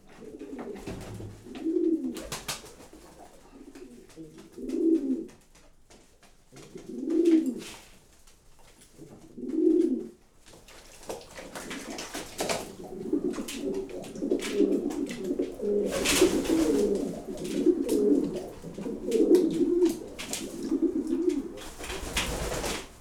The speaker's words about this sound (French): Dans le bain, les deux qui ont pris position, c'est le couple de Carnot. Ce sont des pigeons généralement un peu batailleurs, mais bon, ils se sont bien adaptés à notre pigeonnier.